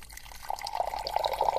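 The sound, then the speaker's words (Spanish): An office water cooler jug gurgles with a rapid run of bubbly, glugging pops that build over about a second and a half, moderately loud, with no voices. “Un bidón de agua.”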